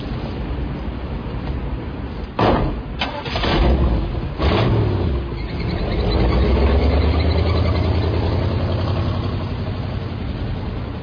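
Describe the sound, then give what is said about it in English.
A car engine cranks in a few rough bursts, then catches and revs up into a loud, steady rumble as the car is kept warm, with no one talking. “Get out of the car, because you are not driving anymore, all right?”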